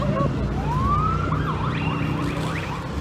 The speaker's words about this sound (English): Hey, we're live. There's been lots of sirens and emergency vehicles the last few minutes. I'm not sure why.